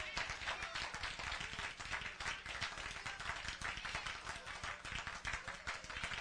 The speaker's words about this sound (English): You say give the Lord a hand clap. Only some people do.